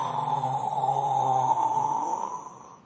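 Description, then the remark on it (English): One long, drawn-out snore from a sleeping man rumbles steadily for nearly three seconds, fairly loud, then fades at the end, with no talking alongside it. “Some will even snore. You hear it.”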